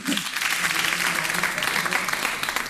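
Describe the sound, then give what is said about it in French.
A crowd breaks into steady applause, many hands clapping together in a dense, continuous wash of sound that holds at an even loudness throughout, with no voices standing out. “On peut l'applaudir.”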